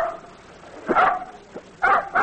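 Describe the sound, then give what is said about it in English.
A dog named Blackie, a little mutt, gives a few short, yappy barks in quick, uneven succession, clear, with a softer yip between them and no voices. “Listen to the wonderful music. Nice, Blackie, nice dog.”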